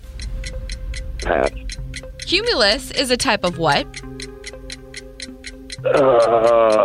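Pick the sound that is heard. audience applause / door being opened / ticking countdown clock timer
ticking countdown clock timer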